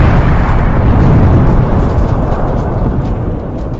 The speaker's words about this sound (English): Insert unnecessary explosion.